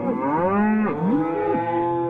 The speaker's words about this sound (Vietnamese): Ba nó đã đi ra ngoài để vắt sữa bò. Đây là lần đầu tiên ba nó vắt sữa bò trễ như vậy, nên các chị bò tức giận, dậm chân và rống lên ầm ầm.